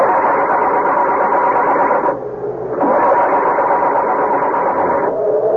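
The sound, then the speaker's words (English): The engine of a car that has just crashed into a tree churns and strains loudly as it is started, its steady mechanical roar briefly sagging twice before picking up again. No voices are heard. “Muttering a silent, heartfelt prayer, he tries to start it.”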